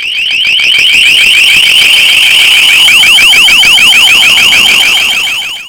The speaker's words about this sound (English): However, at the first sound of the approaching enemy air fleet, sirens atop the firehouse in Farmingdale and the nearby New York State College of Agriculture will shriek a warning to the entire population.